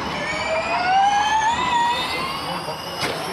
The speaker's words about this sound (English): That's not exactly how I remember Formula One. That sounds more like the old RC cars I used to play with as a kid. Yeah, it's not. It is Formula E. Uh-huh. It's an electric race car, and Formula E races are pretty intense.